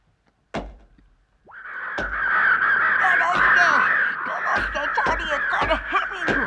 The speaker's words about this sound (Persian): آسمون پر از کلاغ شد، کلاغ‌های پرسیا. چه نوکی بهش میزنن.